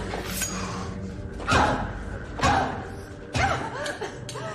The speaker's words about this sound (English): She runs away and struggles with the locked door.